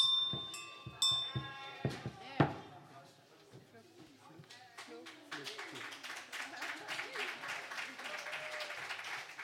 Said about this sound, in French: Merci beaucoup et un tonnerre d'applaudissements à Flo à la flûte traversière.